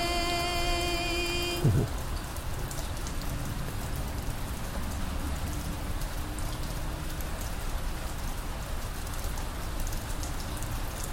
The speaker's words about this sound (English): Yeah, I love the sound of the rain.